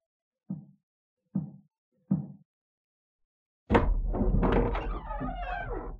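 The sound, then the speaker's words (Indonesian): Three evenly spaced, muffled knocks on a door, then a pause before a father opens the door with a sudden thump, followed by a steady wash of noise and creaking as it swings open. “Biar, bapak saja yang buka pintu.”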